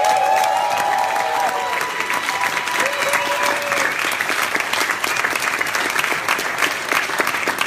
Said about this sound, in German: Genauso wie die Veranstalter hier. Die haben es einfach umgesetzt. Und ich denke, wir haben einen, die haben einen ganz, ganz großen Applaus verdient. Ja?